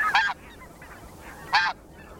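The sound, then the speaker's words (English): Two sharp, nasal honks of white-feathered snow geese, spaced about a second and a half apart, ring out clearly against a quiet outdoor background, with faint calls from other birds. “while the calls of white-feathered snow geese are more sharp and nasal.”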